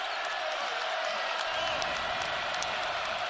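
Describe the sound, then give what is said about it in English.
A large basketball arena crowd of Iowa State fans roars continuously as their team defends against BYU, trailing by one with 1:40 to play. It is a dense wash of cheering and noise that holds steady and swells slightly partway through, with no clear single voice standing out. “Iowa State crowd rising as its team defends BYU.”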